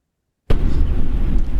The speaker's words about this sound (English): I had to clear my throat.